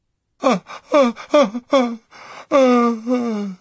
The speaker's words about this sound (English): Gasped the dryad, shuddering as if in pain, shuddering time after time as if under repeated blows.